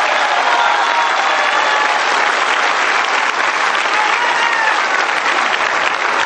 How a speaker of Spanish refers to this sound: Están los 35. Un aplauso para los 35 diputados.